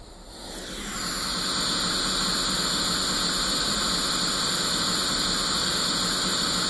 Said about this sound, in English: That's white noise.